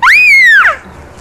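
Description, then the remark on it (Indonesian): A young child, asked to show how they scream, lets out one short, shrill scream, loud, rising sharply then sliding down and cutting off after about half a second, with quiet afterward. “Kalau teriak?”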